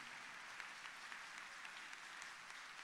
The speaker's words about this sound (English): Church, if that clapping offering was meant for the Lord, can we give it very powerfully?